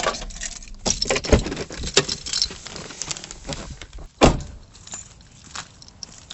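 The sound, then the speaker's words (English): Keys and a key fob jingle and clink at a marina's electronic entry in a series of sharp metallic jangles, with a louder clack near the end like a latch or gate releasing, over a low background rumble. “Well, my key fob still works.”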